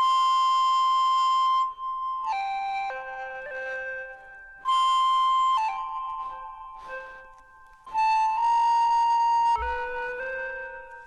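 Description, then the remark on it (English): An electronic, flute-like tone from a phone, made by blowing across the phone's microphone while touching buttons on its display, plays a wandering melody of sustained notes that step up and down in pitch, in three loud phrases separated by brief pauses, with no talking. “I'm just blowing across this microphone here, which is part of the phone anyway, and it's catching that sound and turning it into an electronic tone.”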